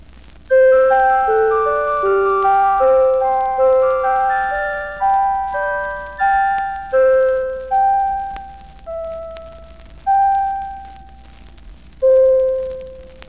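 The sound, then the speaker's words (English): Delicate flute tones imitate a little music box, picking out a bright tinkling melody of quickly fading notes that slows down and spreads apart toward the end, with no talking. “The flute tones make a delicate sounding little music box.”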